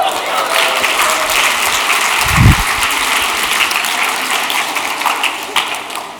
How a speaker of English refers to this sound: Now, why are you clapping?